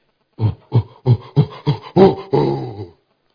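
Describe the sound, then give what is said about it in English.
A lion's call on seeing its prey: six short, deep, rasping grunts in a steady rhythm, then one longer drawn-out grunt to finish, loud and on its own with no talking. “The lion always makes a sound when he sees his prey.”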